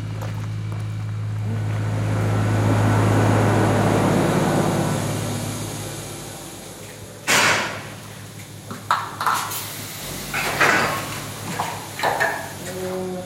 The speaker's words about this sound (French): Et c'est quoi le bruit qu'on entend là? C'est la salle de traite. C'est la machine pour traire les vaches.